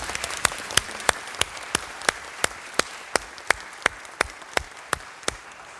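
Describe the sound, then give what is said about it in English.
An audience at a worship service breaks into steady applause, a dense wash of many hands with a few sharp claps landing at an even, regular beat. It holds at moderate volume throughout, with no voices. “Round of applause.”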